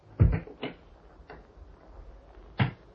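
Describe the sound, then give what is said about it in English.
A clock ticks with a handful of sharp, woody clicks spaced unevenly, some louder than others, against a quiet background with no voices. “Listen as the clock moves on.”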